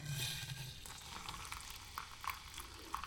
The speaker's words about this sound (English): Here's the pot. Let's add some water.